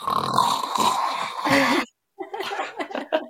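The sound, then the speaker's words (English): A voice imitates snoring with a long, rasping, nasal snort, loud, then a short silence before laughter and chatter break out. “should I close us with a snoring noise? I could use a good snoring noise.”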